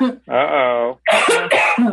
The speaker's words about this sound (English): Excuse me. I've got a cough going.